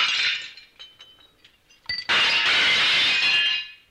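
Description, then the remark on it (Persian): Glass dishes shatter as a woman in a wooden wheelchair strikes them with a chain mace (a chain with an engraved handle and a metal ball on the end): a first crash with scattered tinkling shards, then a louder, sustained smash of breaking glass that rings on for over a second. Loud, with no voices. “زن با تعلیمی همه ظرف‌های شیشه‌ای که جلویش قرار دارد را می‌شکند.”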